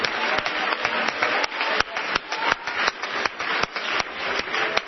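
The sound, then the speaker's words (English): An audience claps together in praise to the Lord at an evening service, a dense, steady wash of many hands with sharper individual claps popping through at irregular moments, continuous and fairly loud with no talking. “Let's give the Lord a good clap offering of praise tonight.”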